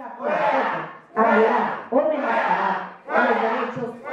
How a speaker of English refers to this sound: And she was met by the loudest crowd I'd ever heard shouting out, Fuera! Fuera! Out! Out! Out. They wanted her out, and they kept on getting louder and louder. You could not even hear the congresswoman speaking while she read her bill on the podium.